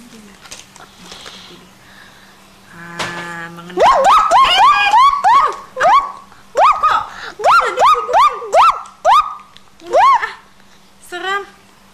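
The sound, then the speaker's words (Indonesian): A person's voice imitates a dog barking as part of an animal story: a quick run of sharp, yelping barks repeated about a dozen times, loud, after a few seconds of quiet background and a brief buzzy tone. “Guk guk guk. Kok ada anjingnya sih?”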